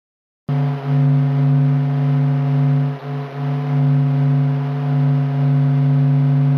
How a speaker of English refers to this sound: This is the sun. The sound of the sun screaming. Raw audio from NASA.